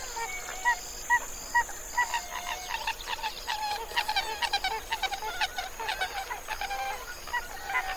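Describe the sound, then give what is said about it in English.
A pied-billed grebe calls in a marsh in a series of loud, hollow, repeated notes that start spaced out and then speed up into a rapid run, with no talking. “A pied-billed grebe.”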